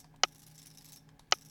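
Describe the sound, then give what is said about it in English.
Two brief, crisp mechanical clatters about a second apart, the quick rattling snap of the cells of a 20-cell braille display connected to a phone refreshing as its cursor keys are pressed, over a faint steady hum with no talking. “If I turn speech off by doing this, speech off, and then if I press the cursor keys on the Braille display, you'll hear the phone panning and doing what a phone does.”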